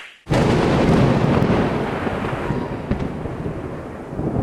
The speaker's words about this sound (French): Tu as déclenché un orage au-dessus de nous. Arrête, on est tout mouillé.